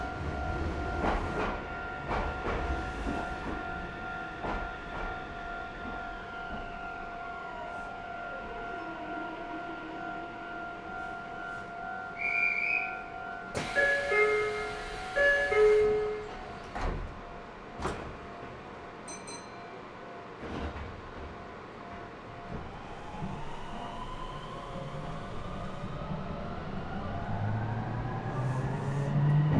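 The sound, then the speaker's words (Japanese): A Japanese train pulls out of a station after its doors close, next stop the terminus Kasamatsu, its electric motor whine gliding steadily upward in pitch as it gathers speed, with a burst of hissing and scattered clunks and rattles along the way. “まもなく発車いたします。ドアを閉めます。ご注意ください。”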